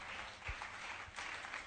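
audience clapping hands

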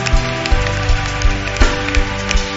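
audience clapping hands

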